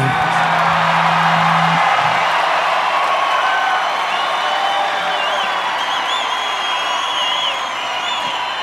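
A loud concert crowd at a Sunday night show cheers and whoops continuously, a dense roar of many voices with scattered high shouts and whistles; a low hum drops out after the first couple of seconds.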